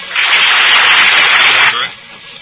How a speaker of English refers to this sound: Don't stop applauding that way, audience. It sounds so terribly mechanical, you know. Like they're on a record, isn't it? Yeah, it embarrasses us.